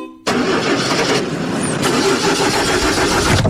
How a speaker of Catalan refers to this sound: Uf, el cotxe em fa un soroll estrany i l'aire condicionat no refreda gens.